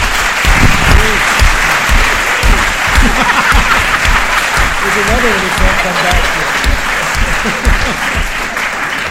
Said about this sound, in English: Thanks to the audience. And let us thank the panel with a round of applause.